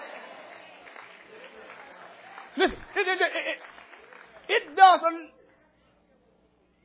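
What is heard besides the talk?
audience clapping hands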